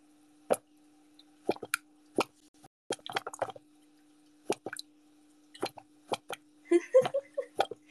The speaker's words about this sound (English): It's the sand popping. I don't know if I should just let it do that. Hold on. It looks dangerous because it's the water's like popping up from the pressure. The pressure of like leaving the sand.